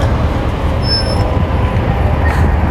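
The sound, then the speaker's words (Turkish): A city bus on route U2, heading to Merkez, Beşiktaş and Ulus, rumbles steadily in front: a constant low drone with a traffic-like hiss over its whole length and no voices. “Bu otobüs ne? Önümüzdeki.”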